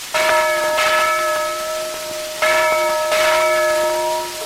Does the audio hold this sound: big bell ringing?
yes